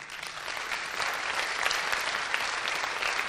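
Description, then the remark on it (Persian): Steady audience applause for a participant at a coaching session fills the whole stretch, a dense wash of many hands clapping at an even, moderately loud level with no voices standing out. “من تشویقش کنم.”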